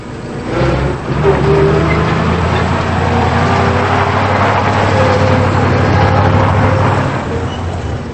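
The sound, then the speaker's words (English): In daytime, a truck with a suitcase loaded on the back and passengers aboard pulls away from a bunkhouse, its engine rumbling loudly and steadily, a low droning growl with gritty road noise that holds for several seconds before easing slightly at the end. “The truck pulls away from the bunkhouse.”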